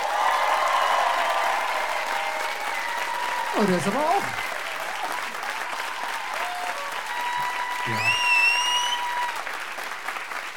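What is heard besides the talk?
audience applause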